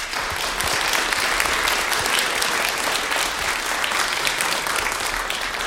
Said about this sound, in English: these people, ladies and gentlemen, are the backbone, so to speak, of this transmission, not forgetting the people at the transmitter. So I think that we should let our audience at home hear the first applause for these technical people.